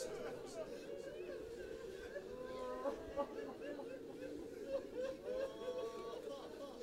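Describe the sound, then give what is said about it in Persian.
An audience weeping and sobbing together during prayer, many voices blending into a steady, wavering wail of mid-pitched cries and sobs that rises and falls without pause. “کسی اگه رد شه ندونه خیال میکنه شما داغ جوان دیده.”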